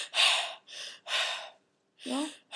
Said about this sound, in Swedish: Andas in, andas ut.